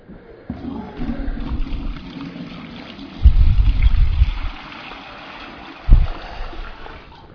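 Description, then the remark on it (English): Water is poured back into a container during a sermon, in a few uneven bursts, gurgling and splashing, with a louder sustained pour in the middle and a brief splash near the end. “Can we pour that back in here?”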